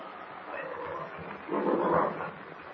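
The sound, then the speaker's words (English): A huge angry bear growls deeply and roughly in a dark cave as it lumbers forward, the growl rumbling continuously, swelling louder and harsher midway before easing back, menacing, with no one speaking. “The huge animal lumbers toward them, growling ferociously.”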